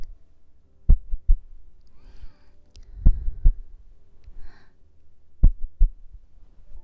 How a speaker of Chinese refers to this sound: 听到了吗？就是姐姐的心跳声，是不是很平稳？有没有感觉很安心呢，宝宝？